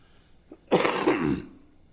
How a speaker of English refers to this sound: And I apologize if I do some little bit of coughing every now and then. I have a tickle in my throat that's sort of annoying.